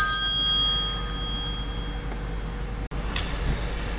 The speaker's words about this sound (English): Phone's ringing off the hook.